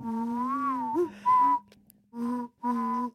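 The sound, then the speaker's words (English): A voice imitates a train engine with sustained, steady hummed and whistled tones: one long drawn-out note, then a brighter short blast, then two evenly spaced hoots after a pause. No words are spoken. “engine sound like a train.”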